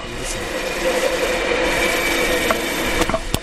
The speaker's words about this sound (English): So hopefully you heard that. I turned the directional microphone at the train to go across.